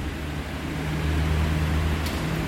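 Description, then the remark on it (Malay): A steady electric fan whirs continuously, a constant low motor hum under an even airy hiss, with no speech and no change in level throughout. “Tak payah kipas lah, kipas.”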